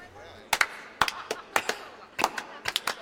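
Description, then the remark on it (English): Sparse, scattered applause at the Space Sticks R Us conference after Gunnar Hancock's presentation on espionage: a handful of sharp hand claps in uneven little bursts, moderately loud, with quiet gaps between them rather than a dense crowd roar. “How about another round of applause for Gunnar Hancock and his ethereal presentation on espionage in the ether?”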